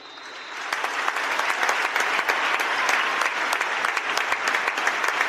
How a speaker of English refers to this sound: We would now ask both sets of fans to join us for a minute's applause before today's game, which will start and end on the referee's whistle.